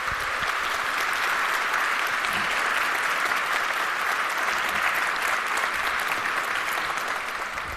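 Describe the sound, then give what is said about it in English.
Steady, dense applause from a large crowd after a talk at an event with a hardware hacking area, many hands clapping at once in a continuous loud wash that holds evenly for several seconds before easing slightly at the end. “If you have questions, please, round of applause.”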